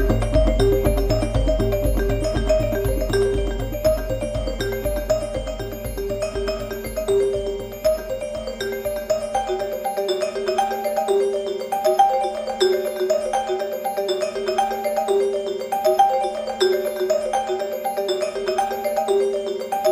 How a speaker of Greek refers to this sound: Περίοδος της αναμονής, όπου το κρασί κατακάθεται και οριμάζει μέσα στα ξύλινα βαρέλια, αποδίδεται με έναν κυκλικό διάλογο ανάμεσα στη μαρίμπα και σε ξύλινα τούβλα.